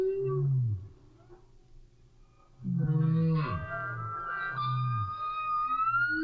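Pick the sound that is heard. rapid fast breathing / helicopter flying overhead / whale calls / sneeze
whale calls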